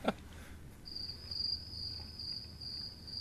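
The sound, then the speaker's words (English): After a brief knock at the start, a cricket sound effect plays: crickets chirp in a steady, high-pitched continuous trill that holds to the end, fairly soft over a low background hum. “Where are those crickets at?”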